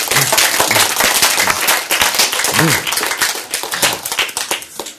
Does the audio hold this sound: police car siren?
no